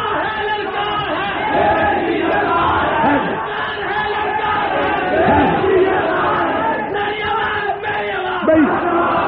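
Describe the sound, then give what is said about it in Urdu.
A large crowd at a speech loudly chants religious slogans, many voices shouting together in a continuous roar that fills the whole stretch with rising and falling swells. “میں نے پہلے کہا نعرے کوئی نہ لگائے، نعرہ نہ لگائیں.”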